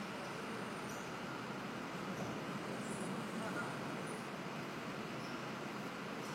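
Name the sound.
traffic noise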